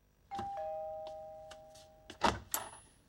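doorbell ringing

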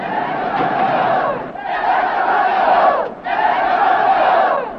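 angry protest crowd shouting

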